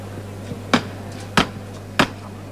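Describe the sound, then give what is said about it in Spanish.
Three sharp wooden hammer knocks struck by the capataz on the procession float of the Virgen de la Estrella, at a steady, deliberate pace, each a crisp impact, with a low constant hum underneath and no talking. “Va a tocar martillo”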